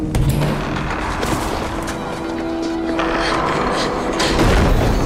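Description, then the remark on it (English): A key rattles and clicks in a lock, followed by a door being pushed open with a drawn-out creak and a dull thump, all over a dense, steady background rumble. “Sadie inserts the key, unlocking and pushing it open.”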